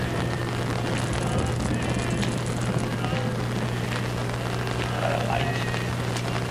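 Steady rain falling indoors patters on a hard surface, a dense continuous hiss of drops with a low steady hum underneath, no clear pauses.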